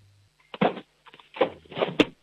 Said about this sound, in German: Du, und dann hätte ich gerne jetzt mal, dass du noch in die Küche läufst und einen Kochtopf holst und einen Löffel und mit dem so richtig draufschlagst auf den Kochtopf. Geht das? Ja. Super. Kochtopf, Löffel. Und so richtig Lärm machen,